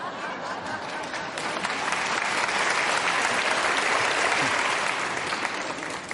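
A sustained burst of audience applause, dense and steady, swelling slightly in the middle and holding loud for several seconds, with faint crowd murmur mixed in.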